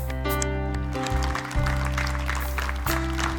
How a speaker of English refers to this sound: Let's just give the Lord a hand clap of praise for what he's doing in these lives. Wow.